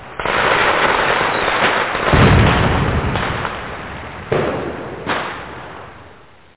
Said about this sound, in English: Fireworks.